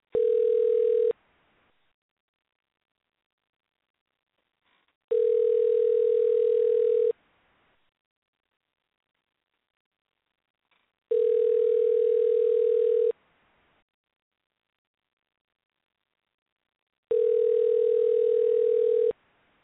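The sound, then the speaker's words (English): A telephone ringback tone sounds while a call goes through to a musical guest's manager: four steady, mid-pitched buzzing tones, each about two seconds long, separated by regular silent gaps. No one speaks. “All right, we're going to dial up to him right now.”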